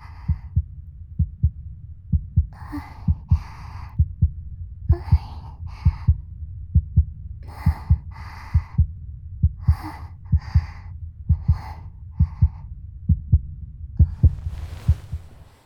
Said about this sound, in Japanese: 私は心臓の音を聞いて落ち着くわけじゃないけどな。